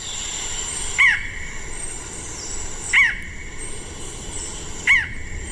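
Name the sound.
barred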